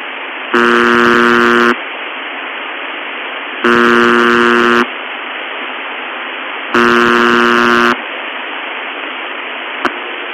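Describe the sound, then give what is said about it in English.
A harsh electronic buzzer sounds three times, each time blaring loudly for about a second before abruptly falling back to a steady, quieter droning buzz that continues underneath. “Okay, having heard that, you can hear the buzzer suddenly goes from a loud sound to a quiet sound right at the start of the buzz, and there's a very distinctive drop at a point, yet the buzzer is still audible.”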